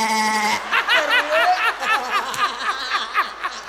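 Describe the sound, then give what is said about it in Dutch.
A person imitates a goat, producing a run of quavering, nasal bleats in quick succession, fairly loud, with a breathy, laugh-like wobble throughout. “Mensen zeggen, er zijn 5 geiten doodgemaakt voor die haren van haar. Als je bij haar heel dichtbij bij Birgit zo zet, hoor je”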